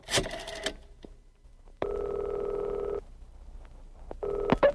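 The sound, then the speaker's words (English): A special yellow telephone handset on an oak desk clatters as it is picked up, then a few dialing clicks lead into a loud, steady ring tone lasting about a second, which starts again after a short pause. No voices. “Immediately, the commissioner's attractive secretary picks up the special yellow phone on her distressed oak desk and makes contact with the white-winged warrior.”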